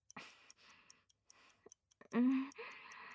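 clock ticking

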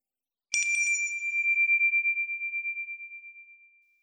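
small bell ringing

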